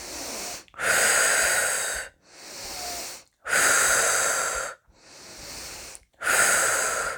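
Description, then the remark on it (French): Deep, vigorous, energizing breaths drawn in and pushed out in a steady rhythm during a sophrology session, loud, with several full cycles in a row and no talking. “Dès sophronisation, nous prenons quelques grandes inspirations un peu plus toniques.”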